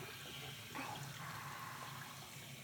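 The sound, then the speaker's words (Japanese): Steady running water splashes and gushes continuously as a shower stream rinses shampoo foam from hair at the nape and both sides of the head, with a brief louder surge partway through and no voices. “ここの泡を洗い流してて、頭の両サイドもジャブジャブ洗い流して、隅々まで泡をきれいに落として、”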